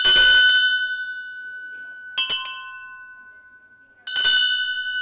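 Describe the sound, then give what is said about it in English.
A small metal bell is struck three times at a slow, uneven pace to show how a bell's material shapes its sound, each bright ring hanging on with a long, shimmering decay. Clear, with no talking. “If I ring this, you'll hear the sound. And then we'll compare that to a brass tuning fork. I mean, brass bell, sorry.”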